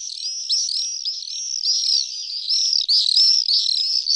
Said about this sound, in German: Es geht um den Mauersegler. Der Mauersegler ist, ja, seit dem Wochenende wieder in Halle und auch in Deutschland.